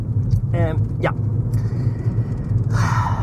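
Steady low road rumble from inside a moving car fills the whole clip, with a couple of brief breathy vocal sounds near the start and a soft hiss toward the end.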